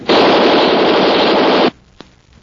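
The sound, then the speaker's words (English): A loud, sustained burst of machine-gun fire rattles for about a second and a half, then cuts off abruptly, leaving near silence broken by one short click. “That machine gun won't do you any good, Race.”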